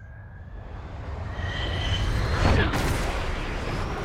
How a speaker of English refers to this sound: That's all you need to hear is the plane sounds. Plane stuff.